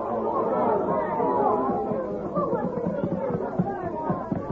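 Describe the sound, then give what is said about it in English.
A crowd murmurs steadily, many overlapping voices blending into a dense, continuous babble with no single speaker standing out, holding a fairly even loudness throughout. “Now, break up the crowd and go on about your business.”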